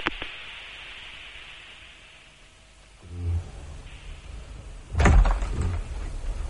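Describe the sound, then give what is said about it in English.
A heavy drawer rumbles as it slides open, ending in a loud clunk as it stops, over a steady background hiss. No one speaks. “The drawer's empty.”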